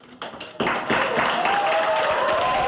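cheering and applause

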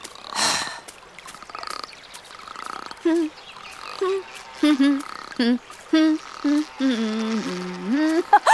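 frog croaking

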